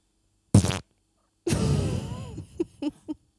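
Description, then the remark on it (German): A voice imitates a fart with the mouth: a short buzzy burst, a pause, then a longer sputtering raspberry that trails off into a few small pops, fairly loud with no talking. “Oh Mann, ich habe ein Furzgeräusch gemacht.”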